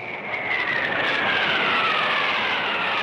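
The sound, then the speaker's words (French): A jet aircraft roars steadily and loudly for a few seconds, a high whining tone sliding gradually downward in pitch above the broad rushing noise. No one speaks. “Bob, c'est le jet.”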